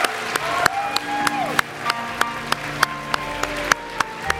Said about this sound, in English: Oh, let's give a clap and a shout unto the Lord who's heard this.